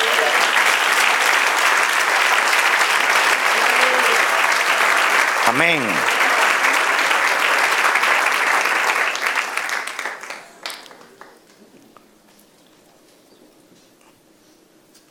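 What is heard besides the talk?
audience applause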